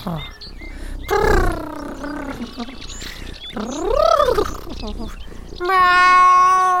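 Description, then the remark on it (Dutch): A voice imitates a cat purring loudly, with drawn-out, rolling, cat-like vocal sounds that rise and fall in pitch over several seconds, strong. “Nou, ik ga dan altijd heel hard spinnen. Kijk maar zo.”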